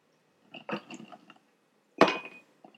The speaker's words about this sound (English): Here, let's throw some ice on that bad boy now.